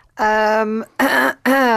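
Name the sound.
throat clearing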